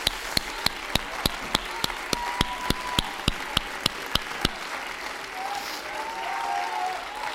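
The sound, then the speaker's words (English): A standing group claps hands to give God praise, in a steady, even rhythm, about fourteen sharp beats over four seconds, then the clapping stops and a softer murmur of crowd noise continues. “Stand to your feet with me and clap your hands and give God some praise in this house.”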